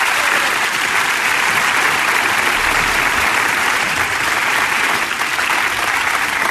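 Loud, sustained applause from a large audience fills the room, a dense steady clatter of many hands clapping without pause and no voices standing out.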